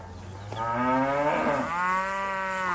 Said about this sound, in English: Across the East African community, the Ankole cow from Western Uganda's Ankole region is one of the much cherished of all indigenous cattle. In fact, many prefer calling it long-horned cattle.